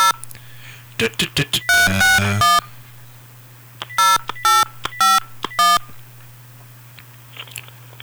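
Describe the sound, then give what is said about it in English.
A telephone is dialed: a rapid run of short touch-tone beeps, then several separate, evenly spaced ringing-tone bursts over a steady low hum, fading into quiet line noise at the end. “Okay, now we're getting ringing.”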